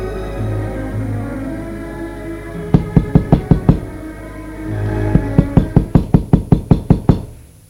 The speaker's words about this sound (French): On a frappé à la porte.